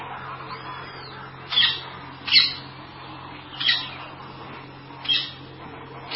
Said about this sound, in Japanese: すごいね鳥の声を録音して聞いて遊んできたんですよ。 あれ鳥の声だけやのってあの猿の声もあったんやね。